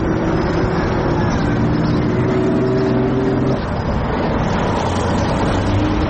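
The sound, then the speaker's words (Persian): Heavy trucks rumble past on a busy street in Toronto, carrying photos of people killed and imprisoned and chanting slogans against the Islamic Republic; a continuous loud low engine drone with shifting tones as they move by, amid steady roadway noise. “دیدم یه تعداد کامیون هستن و عکس‌های کشته شده‌ها و زندانی‌ها و اینها رو گذاشتن و دارن شعار مرگ بر جمهوری اسلامی میدن و میگن که جمهوری اسلامی ضد زنه، ضد انسانه”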